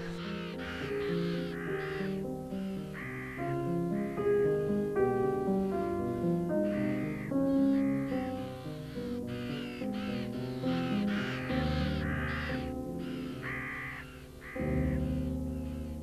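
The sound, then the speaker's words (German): Carrion crows caw loudly and repeatedly in a large old tree, several harsh calls overlapping in a noisy chorus that continues throughout, insistent. “Das stimmt, Rabenkrähen sind ziemlich laut und ich weiß gar nicht, ob ich das schön oder etwas gruselig finden soll.”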